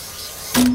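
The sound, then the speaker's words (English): A machine slicing giant sheets of reflective mirror glass into little pieces for making mirrors runs with a steady mechanical hiss, then suddenly grows louder as a low, steady droning tone and a bright buzzing surge kick in for the last moments. “You see here, this is the machine that cuts the mirror.”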